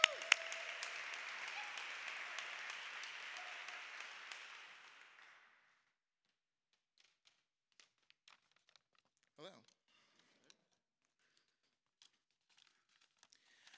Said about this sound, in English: So can we give Darren a round of applause?